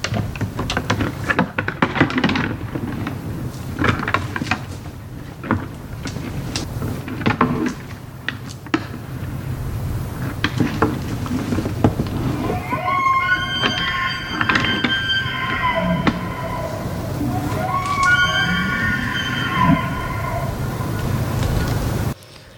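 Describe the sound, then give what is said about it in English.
Elk antlers clack and rattle together as bulls spar, in irregular bursts of sharp knocks over a steady low rumble, with high, whistling bugling calls from other males rising in the second half. “The first sound that we played for you is the sound of elk antlers rattling against each other as the bulls spar with each other, which is often accompanied by bugling calls from other males in the area.”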